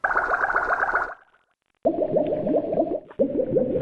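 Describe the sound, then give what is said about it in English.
Water poured into a coffee pot boiling, a loud gurgling and bubbling that churns in rapid pulses, stops briefly, then resumes in two more bursts. No voices. “It's up to the boiling point.”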